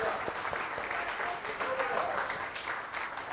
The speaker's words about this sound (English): Let's give a clap of praise to the Lord for his faithful.